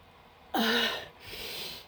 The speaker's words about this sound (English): Yeah, I'm fine. Don't worry about me. I'm just sneezing. Or something like it.